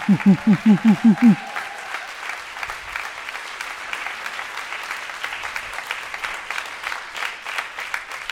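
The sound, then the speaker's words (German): A crowd applauds steadily as a contest winner is called up onto the stage, a dense, continuous clatter of clapping that holds at an even level throughout. A quick run of about seven rhythmic, low tonal pulses sounds at the very start. “Einmal hier lang und es wird weiter applaudiert.”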